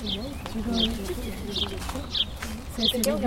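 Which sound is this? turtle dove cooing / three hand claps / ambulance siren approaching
turtle dove cooing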